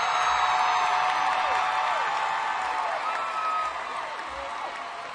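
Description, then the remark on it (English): A crowd cheers and applauds in a dense, steady roar, with scattered whoops and whistles rising above the clapping before it eases slightly toward the end. “First of all, thank you for cheering so loud and bringing us back.”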